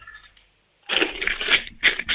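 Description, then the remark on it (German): After a brief silence, coins rattle and clatter inside a piggy bank, shaken hard by a 7-year-old boy from Tyrol in several quick, loud bursts with a bright metallic jingle, and no voices. “Dann lauf mal los, ich möchte die Sparbüchse hören. Schüttel die mal richtig.”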